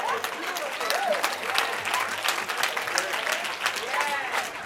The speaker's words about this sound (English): Clap your hands. I'm done, church.